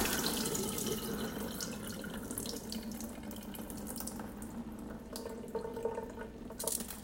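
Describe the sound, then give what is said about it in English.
Water runs steadily from a tap into a bowl while rice is rinsed for the third time, a continuous splashing hiss with brief sloshing changes as the rice is stirred underneath; no one speaks. “And even on the third rinse, the water is a little less white, but it's a little more clear, but you can still see that you're getting a lot of starch out of it.”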